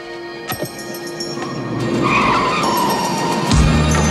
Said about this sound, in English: He sees the boys driving away in his car.